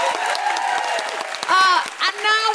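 A crowd applauds with a dense, steady patter of many hands clapping, joined partway through by loud, high-pitched whoops and cheers rising over the clapping.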